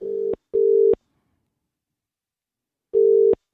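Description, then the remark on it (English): A telephone ringback tone of an outgoing call placed by radio hosts to a listener: a steady electronic purr in pairs of short bursts, each pair followed by a longer silence, clear and fairly loud with no voices. “Answer the phone.”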